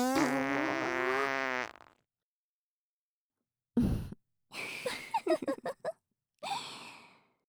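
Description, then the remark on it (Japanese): A long, loud buzzing fart from several young women is followed, after a pause, by a rapid string of short sputtering farts and one final blast, all with no talking. “お姉さんたちの連発おなら、 強烈なへの匂いでお鼻ひん曲がっちゃいそうでしょ？”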